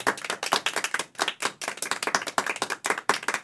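A round of applause from a group, with many hands clapping in a dense, steady patter of sharp bright claps at a moderate level for a few seconds, and no voices.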